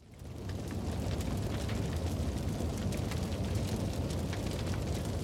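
Rapid, irregular cracks and pops like firecrackers burst over a steady, loud roaring rumble, continuing without pause for several seconds with no voices; heard outside a bedroom window at 1 a.m. on October 27, 2011.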